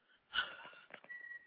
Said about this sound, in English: With the fart noise. Oh, y'all heard that? My bad.